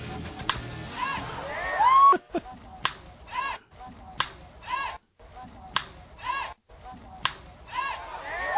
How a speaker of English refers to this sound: I like the cheer by whoever it is there right after he... right after he gets that wood on that ball like that, somebody going, hey! It's like, crack, hey, crack, hey. Tim Tebow going yard with his first ever pitch faced in professional baseball.